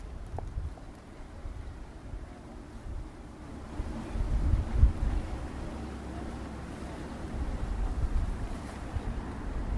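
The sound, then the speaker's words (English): A low engine rumble of a boat passing on a river builds gradually and swells a little midway, with steady wind noise and lapping water around it; no one speaks. “Another boat coming, I think.”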